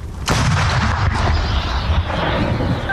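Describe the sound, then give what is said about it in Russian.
A single heavy artillery shot from a howitzer made in 1946: a sharp, loud blast followed by a long, rumbling boom that rolls on and slowly fades, with no voices. “Гармата отлично, ну вона 46-го года, а хочется что-то новенького, потому что, ну, старая и старая, ну, она точненько и хорошо бьет. Отходим! Отойди. Выстрел. Огонь!”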